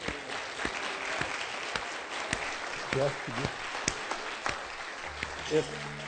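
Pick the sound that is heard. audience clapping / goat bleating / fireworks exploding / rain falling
audience clapping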